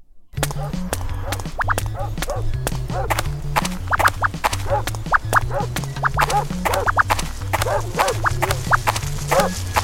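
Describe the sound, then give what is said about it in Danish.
A dog, Oliver in the audio game Blind Bob's Walk, barks over and over in rapid bursts, loud and persistent, layered over a low, steady electronic drone and pulsing tones that run throughout. “Så skal du fandme høre hund.”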